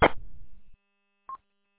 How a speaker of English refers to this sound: Also, I noticed that it sounds like you have some form of weird Roger beep or squelch tail on the end of your transmit. I don't know what happened. I didn't hear that earlier.